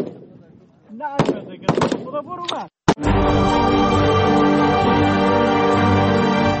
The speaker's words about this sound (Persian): با آن هم این زنان بی توجه به آینده ناروشن تا تلاش دارند تا گلوله هایشان به هدف بخورند و برای کشورشان تأمین امنیت کنند.